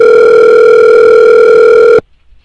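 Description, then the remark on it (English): A loud, steady telephone dial tone hums at one unchanging pitch for about two seconds, then cuts off abruptly into near silence, as a call is placed about a Craigslist ad for a free kitten. No one speaks. “Hi, I was calling about an ad I saw on Craigslist for a free kitten.”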